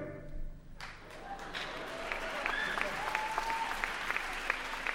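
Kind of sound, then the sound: crowd, sparse audience applause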